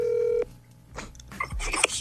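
A single steady electronic phone tone sounds for about half a second, close and clear, then gives way to soft rustling and handling noises.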